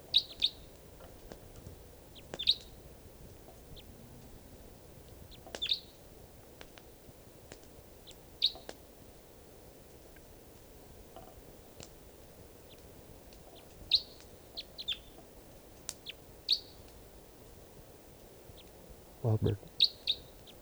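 Wild crossbills at a camp give short, high chirping calls at scattered intervals, some in quick pairs or clusters, over a low steady background hiss, with no voices present.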